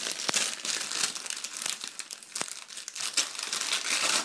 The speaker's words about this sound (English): So I am going to remove it from wrapping paper.